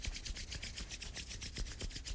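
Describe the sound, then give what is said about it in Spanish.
Vigorous rubbing in quick, steady strokes, roughly ten in two seconds, each a bright scratchy swish with soft low thumps, continuous and fairly loud with no voices. “Ahora voy a frotar fuerte, fuerte, fuerte, fuerte, fuerte, fuerte.”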